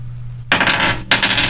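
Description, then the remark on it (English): Dice rolled in a game of chance clatter across a hard surface in two bright rattling bursts, the second following a brief pause, over a faint low hum with no voices. “Okay, so we're going to get to the game of chance where you're going to roll the dice and you're going to read the first sentence that pops up that matches.”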